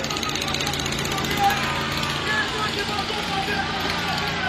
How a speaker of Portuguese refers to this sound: Para esse trator! Para! Não vai ter ciclovia! Para esse trator! Para!